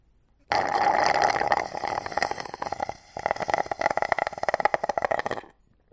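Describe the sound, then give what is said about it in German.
Loud, raspy slurping through a straw as the last bit of water is sucked from a glass: a steady gurgling hiss, a brief pause, then a rapid string of crackly, sputtering bursts. “Ich sauge mit meinem Strohhalm den letzten Rest Wasser aus einem Glas.”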